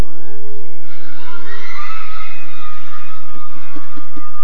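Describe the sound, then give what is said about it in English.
A woman shouts loudly and at length in a church, her raised voice ringing over a noisy, cheering crowd, with a few short bursts near the end. “Bring the lady for me that will shout now loud to the hearing of everybody.”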